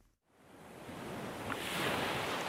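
waves

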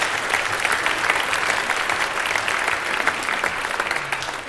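applause

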